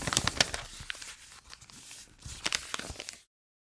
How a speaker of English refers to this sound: 1. Take a piece of paper. 2. Fold the piece of paper.